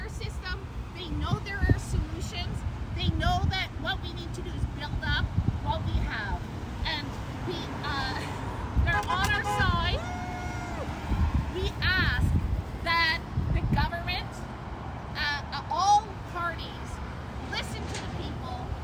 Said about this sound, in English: As you can hear, many folks also showed their support by honking as they drove by.